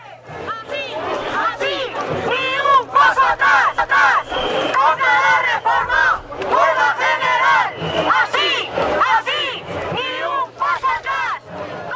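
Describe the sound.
A large crowd of protesters at an education protest talks, shouts, chants slogans and sings together, many voices overlapping in loud, rhythmic bursts with a steady low hum running underneath throughout.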